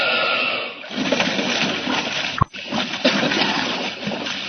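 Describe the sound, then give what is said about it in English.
A sudden splash as someone dives into a river near waterfalls to reach a barge loaded with railroad cars, cutting through a steady wash of churning, bubbling water noise, followed by more turbulent sloshing. “Got to dive down there, grab that barge load of railroad cars, and tow them back where they came from.”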